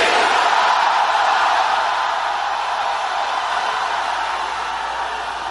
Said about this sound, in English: When you come face to face with death, you will know how to shout. Let me hear you shout Jesus again.